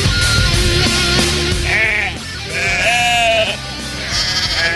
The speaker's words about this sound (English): Well, why do we got lamb noises today to start the show?